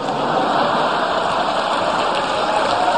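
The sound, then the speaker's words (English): A large crowd at the 2011 Correspondents' Dinner gives sustained, rousing applause, a dense, even wash of clapping that holds steady in loudness for the whole stretch, with no voices breaking through. “And that's from the 2011 Correspondents' Dinner, getting a rousing applause.”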